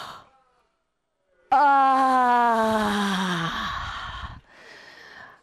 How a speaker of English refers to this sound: But I'm going to ask you all simultaneously to yawn. So big stretch, big mouth open, yawn, yawn.